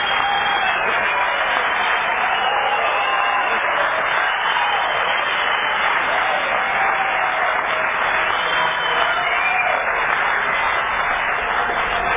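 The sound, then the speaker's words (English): An audience at an Alcoholics Anonymous meeting claps continuously for about twelve seconds for members with 10 to 20 years who stand up, a dense, steady wash of many hands at even loudness with no speech over it. “Just clap on to it.”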